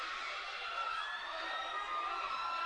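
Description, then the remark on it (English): A gymnasium crowd of Napoleon fans at a basketball game roars and cheers steadily after a blocked shot, a dense wash of voices with scattered shouts and whoops rising throughout, sustained and fairly loud for the whole stretch. “That brings a little life back to the Napoleon crowd.”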